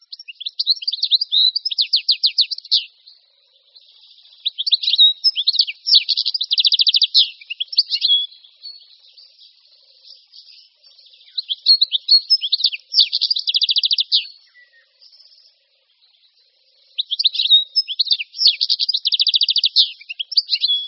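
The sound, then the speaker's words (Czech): European goldfinch calls and twittering song in several lively bursts, bright tinkling chirps in rapid rhythmic runs with short pauses between phrases, clear and alone with no voices. “Mladí stehlíci, s kterými se u nás můžeme setkávat již od počátku července, jsou pouze šedozeleně, nenápadně zbarveni.”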